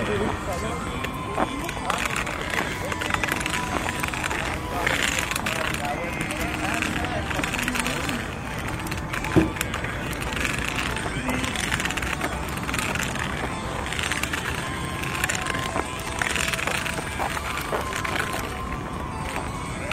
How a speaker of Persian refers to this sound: خب ما هنوز به آب نمو نرسیدیم، اما داریم صدای ماشین ها رو میشنیم.